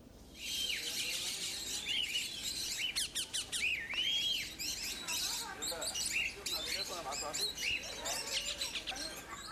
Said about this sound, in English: A lush green oasis near Sudan's capital, Khartoum, has turned into a haven for dozens of exotic birds from all over the world.